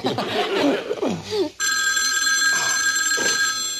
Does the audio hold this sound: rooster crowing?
no